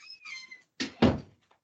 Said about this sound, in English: Oh, I'm sorry. My cat was like biting at me, so I had to throw him out the door.